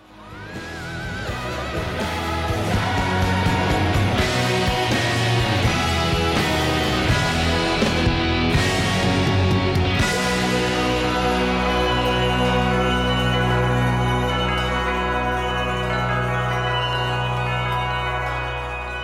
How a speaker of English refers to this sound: It's a sort of semi-contemporary rock song.